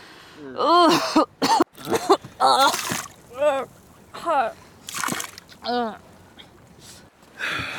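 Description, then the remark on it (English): A seasick girl retches and heaves repeatedly over several seconds, loud, strained gagging bursts mixed with wet splattering, vomiting over the side of a sailboat coming into Borderton Harbor. “No sea legs on that girl, Sam. She's never been on the sea, John.”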